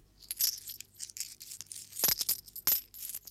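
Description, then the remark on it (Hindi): Several one, two and five rupee coins drop one after another into a piggy bank, making bright metallic clinks and rattles in an irregular patter, with no voices. “एक रुपया, दो रुपया, पांच रुपया, कभी सिक्के तो कभी छोटे बड़े नोट, सब इसमें धीरे धीरे जमा होते जाते हैं।”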